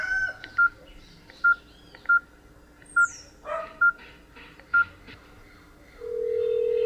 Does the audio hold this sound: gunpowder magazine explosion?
no